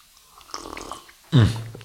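Soft, irregular chewing noises of Terrassenplatzl being eaten, followed by a sudden loud, low voiced sound like a satisfied murmur or grunt that trails off into a steady hum.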